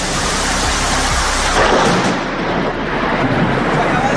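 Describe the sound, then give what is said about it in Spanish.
A deep, loud rumble of thunder rolls through a steady wash of heavy rain during storms in Castellón province, Spain, swelling midway and then settling back into the constant downpour. “Las lluvias y las tormentas son las protagonistas de las últimas horas, fenómenos que han llegado con fuerza a la provincia y que han afectado especialmente a la mitad sur.”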